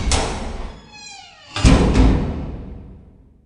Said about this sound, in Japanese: こうして私は部室に連れて行かれた。私が入るとガタンとドアが閉められた。その大きな音が私には死刑台の床が開く音に聞こえた。